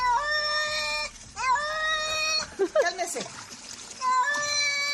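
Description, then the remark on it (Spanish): A cat yowls loudly in long, drawn-out wails, about four protesting cries with brief gaps, while a woman bathes it in a blue bucket; faint splashing of water sounds underneath. “A este gato no le gusta nada que lo bañen y llama a gritos a Raúl”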